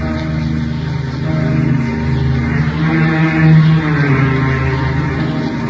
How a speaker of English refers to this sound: Rain clouds were gathering for a squall, and the motor launch swinging through billowing waves toward an island looming on the horizon.